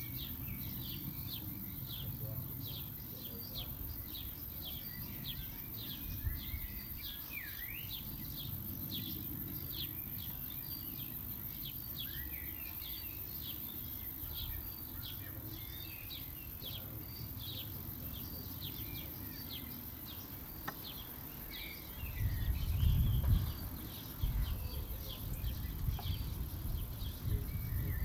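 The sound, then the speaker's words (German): Steady outdoor ambience with a low rumble of wind and a gust swelling near the end, while a dense chorus of small birds chirps and twitters in quick, high bursts throughout. No one speaks. “Neben dem Wind und den Geräuschen, die ich im Außen wahrgenommen habe, konnte ich merken, wie eine innere Stimme aufkam, das jetzt genügt.”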